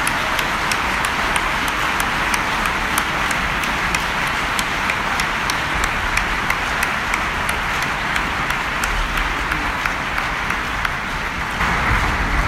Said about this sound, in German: Und das ist auch ein Riesenapplaus wert, was ich da zustande gebracht habe.